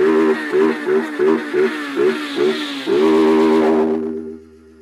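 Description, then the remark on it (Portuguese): A motorcycle engine revs in quick rhythmic blips, about eight short bursts, then holds one long loud rev before cutting off and fading into a low idle rumble. “Frente o paredão, na máxima na minha moto invisível.”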